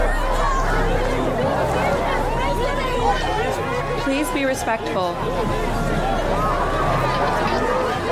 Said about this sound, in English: Anuna leads Greta through a dense crowd as volunteers in reflective vests hold people back.